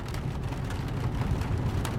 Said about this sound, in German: Draußen beginnt es ein wenig stärker zu regnen und das leise Prasseln auf dem Dach über dir klingt angenehm beruhigend.